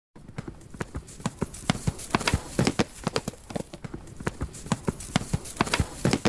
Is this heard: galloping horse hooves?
yes